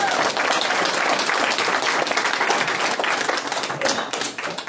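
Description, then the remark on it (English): A crowd applauds steadily, many hands clapping in a dense, sustained wash of sound that stays loud throughout and only begins to thin slightly near the end. “So a round of applause”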